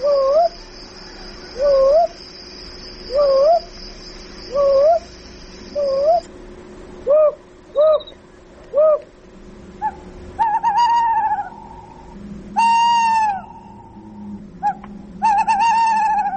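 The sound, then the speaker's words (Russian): A small owl calls repeatedly with short, rising whistled notes, then shifts to longer, louder mewing yelps; the calls are clear, with no talking. “Кстати, а кто такой сыч? Вид мелких сов.”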